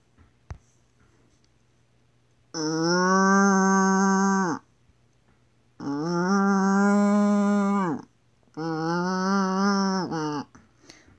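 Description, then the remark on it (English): A voice imitates a cow mooing: three long, loud, sustained moos, each about two seconds, separated by short silent pauses. “Next is cow. Cows go moo.”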